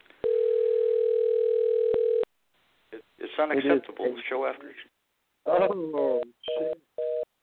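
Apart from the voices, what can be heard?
phone call dialing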